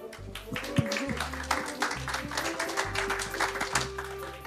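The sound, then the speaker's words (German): Steady crowd applause for a speaker about to give a talk, a dense wash of many hands clapping at once, with a low electrical hum running underneath and no one speaking. “einen ganz, ganz tollen Applaus für Ruben”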